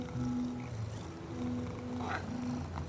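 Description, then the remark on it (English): A kitten purrs steadily, a continuous low rumble, with a couple of brief, faint mews breaking through partway along. “Kittens meow to say hello or to ask for something. And they purr when they are happy.”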